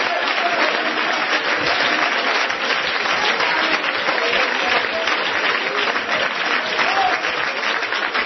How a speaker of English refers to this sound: Come on, clap your hands and praise them.